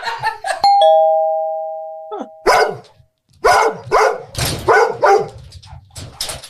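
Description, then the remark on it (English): A two-tone doorbell chime rings, then dogs burst into loud, repeated barking, several sharp barks in quick succession with no one speaking. “Why do humans think we freak out every time we hear a doorbell?”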